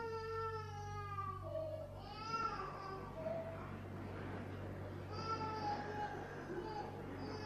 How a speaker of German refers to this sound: Es ist wunderbar, wie sich in unserem Herz alles bewegt, wenn wir ein Baby schreien hören. So auch jetzt.